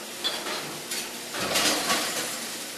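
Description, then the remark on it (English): Volunteers at a company crush glass bottles in a pulverizer: a steady, bright crunching and clinking clatter of breaking glass, swelling louder about halfway through, with no voices. “So she hands off her bottles to the company, where volunteers crush it in a pulverizer”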